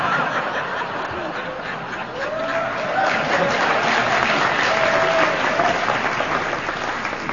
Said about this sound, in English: Hey, smattering. That was an actual smattering of applause. Did you see that?